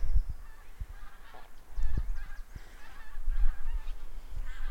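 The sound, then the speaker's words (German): Geese honking high overhead, a steady stream of distant, overlapping nasal calls with low wind rumble underneath and no one speaking. “Ich sehe nicht mal, wo die, ich sag mal, Gänse sind.”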